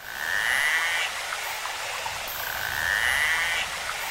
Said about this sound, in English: Well, you've just heard one kind of sound that a narwhal makes. So narwhals are a type of whale with a big tusk on the front of their face.